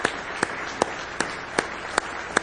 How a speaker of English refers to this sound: Say praise the Lord. Let's give the Lord Jesus a nice hand clap of praise tonight.